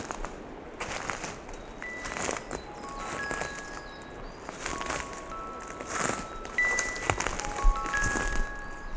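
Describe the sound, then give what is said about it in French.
Dry dead leaves crunch and rustle underfoot in an uneven walking rhythm as someone walks off the trail, fairly loud, while faint birdsong chirps in the background. “Beaucoup de feuilles mortes.”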